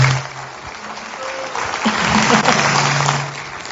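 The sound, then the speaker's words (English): Steady applause from a church audience welcoming a speaker, a dense wash of clapping that holds fairly loud for a few seconds, with a faint low hum running beneath it. “give her a warm applause, would you please?”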